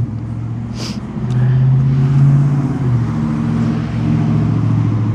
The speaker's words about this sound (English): Noisy truck. Very noisy truck.